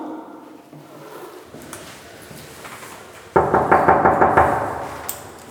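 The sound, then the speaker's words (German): A quiet stretch breaks into a rapid series of firm knocks by a bailiff on an apartment door, about eight sharp raps in a steady rhythm, fairly loud, with no one speaking. “Keine Chance. Diese Tür bleibt heute geschlossen.”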